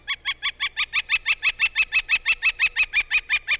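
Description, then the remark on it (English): A northern flicker gives a long, loud series of about twenty rapid, evenly spaced high calls, a steady ringing 'kek-kek-kek' chatter with no voices. “The next time you see your neighborhood flicker, behold a bird that makes homes for more than 20 other species of wildlife.”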